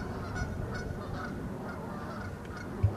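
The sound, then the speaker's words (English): A voice imitates bird calls with a run of honking, goose-like sounds, repeated in a steady rhythm, fairly loud, with no talking. “And in my childhood, I had an experience where I couldn't talk, but I could make sounds. So birds used to land on the windowsill. So I would mimic the birds.”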